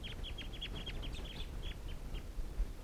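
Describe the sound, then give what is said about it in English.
Decoy ducks and a wild flock call in a quick run of about a dozen short, high quacking notes that slow and thin out toward the end, over a steady low rumble with no talking. “Wild flock, and the decoys are also calling.”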